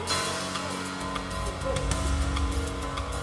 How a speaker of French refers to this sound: Ils furent encore plus inquiets quand ils virent une voiture se garer devant la maison.